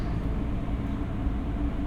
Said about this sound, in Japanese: 全然動けないよ。ちょっと苦しいかも。でも釣り革とかに捕まらなくても全然平気。電車揺れてもちっとも動かない。これこのまま眠っちゃっても大丈夫だったりして。こんなに満員の電車って初めてだ。